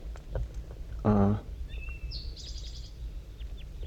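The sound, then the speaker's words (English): Two wild birds in the top of a dead pine tree in thick fog trade soft calls: first a brief, low, buzzy call with a rich harmonic tone, then a quick run of thin, high chirps, all over a steady low background rumble. “And they're calling pretty softly now, back and forth, 5-3 and the two wild ones.”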